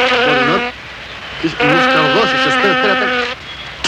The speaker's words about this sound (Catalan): Allò que diuen, sempre hi ha un borinot a l'estudi, eh? Home, perquè fa bonança. Fa bonança, la veritat és que déu-n'hi-do, el xivarri que feia.